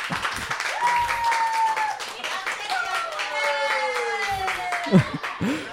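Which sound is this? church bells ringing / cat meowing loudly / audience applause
audience applause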